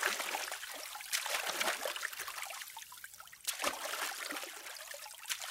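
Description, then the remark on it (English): Water laps and splashes steadily against something, with a few stronger sloshes, as a boat arrives on the River Thames at a water gate of the Tower. No one speaks. “Yes, by boat. This was a water gate. It opened directly onto the River Thames, and visitors would come in through the gates in their boats, then get off and come up the steps you can see in the middle there.”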